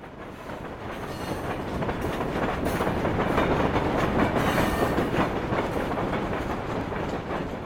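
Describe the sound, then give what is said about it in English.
A steam locomotive passenger train rumbles steadily along the rails: a dense, continuous roar with a faint clickety-clack rhythm running through it, holding loud and even throughout with no voices. “locomotive journey entitled All Aboard”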